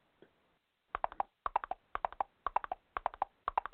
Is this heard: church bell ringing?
no